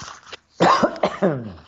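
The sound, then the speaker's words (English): A man clears his throat in a few rough, gravelly bursts, the last one trailing into a voiced grunt, with a brief quiet gap before the first. “Got to clear my throat.”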